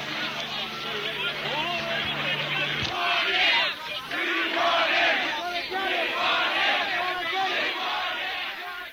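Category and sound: crowd, crowd shouting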